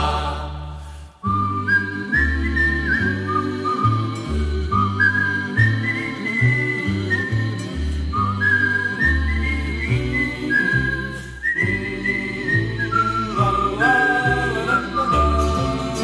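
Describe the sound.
Someone whistles a bright, tuneful melody over a steady instrumental backing with a regular beat, the whistle carrying clearly above the music for the whole stretch with no talking.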